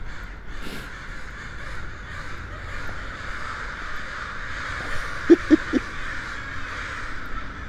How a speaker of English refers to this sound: The birds are roosting again.